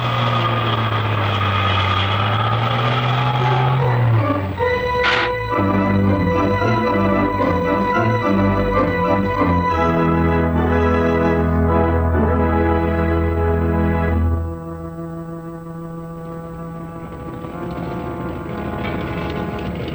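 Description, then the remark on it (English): A loud airplane engine drones steadily with a buzzing, harmonic tone, shifting pitch a few times and easing to a lower, quieter hum near the end. No one speaks. “The airplane has a distinctive sound, too, but not distinctive enough for us.”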